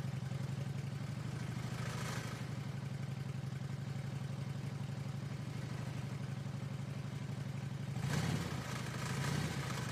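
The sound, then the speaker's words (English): A motorcycle, called the crypto cycle, idles with a steady, low rumbling purr, its even pulsing throb continuing throughout, briefly rising with a slight rev near the end. “The crypto cycle is purring.”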